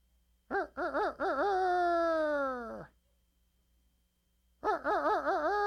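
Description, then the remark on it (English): A voice mimics a rooster's crow: a few quick wavering notes leading into a long, loud, falling held cry, then after a pause a second crow begins with the same warbling start. “That sounds pretty good for a chicken or a rooster.”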